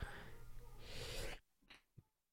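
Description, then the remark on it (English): A single loud, explosive sneeze with a noisy, breathy buildup, followed by a couple of quieter sniffs or breaths as it fades out. “Bless you.”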